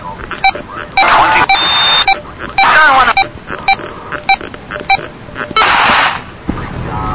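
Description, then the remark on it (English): Short, low-pitched beeps repeat in an irregular series over a radio receiver tuned to the 440 beep band, with bursts of hissy static and warbling tuning noise between them. No one speaks. “And you can hear that since they all beep, this is the low beep.”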